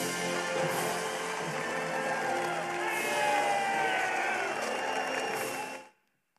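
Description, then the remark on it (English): A large crowd in a film clip cheers and roars continuously, with scattered shouts and whoops rising above the dense, steady wall of noise for about six seconds before it cuts off abruptly. “You didn't cheer too, but I know you wanted to.”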